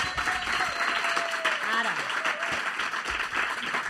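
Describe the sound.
Sustained applause from an audience welcoming a doctor, a dense steady patter of many hands clapping, with faint voices and a brief whoop or call rising over the clapping.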